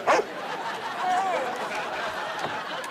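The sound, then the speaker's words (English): A dog gives one short, sharp bark right at the start, then a faint, thin whine follows over a murmur of background noise. “Now I'm scaring the dog.”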